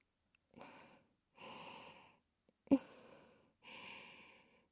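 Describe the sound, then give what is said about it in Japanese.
Four soft, airy breaths blown right up against the microphone, each lasting about a second, with a brief sharp click before the third, breathed as if onto the listener's right nipple; no one speaks. “私の吐息があなたの右の乳首にかかる。”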